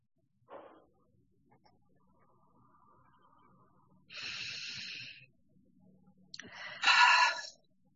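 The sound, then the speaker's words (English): Deep, airy breaths from a group taking three community breaths together, unmuted, at the start of a meditation: a short sniff at the start, then two long, loud breathy inhalations or exhalations a second or so apart, with no talking. “You can unmute yourself so we can all hear those breaths we're taking together at our paces.”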